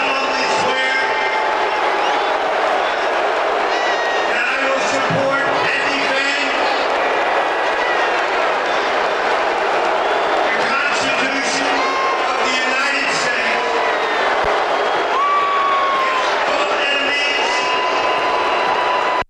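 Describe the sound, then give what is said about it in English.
A large sporting crowd in Washington, D.C. boos Donald Trump, a loud, sustained roar of many overlapping voices with scattered shouts and whoops rising above it for the whole stretch. “A lot of people are saying that Donald Trump got booed there, but to be fair, they probably, it's Washington, D.C., they're probably just booing the Constitution of the United States.”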